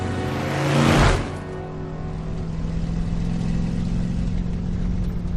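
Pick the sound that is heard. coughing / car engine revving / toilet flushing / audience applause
car engine revving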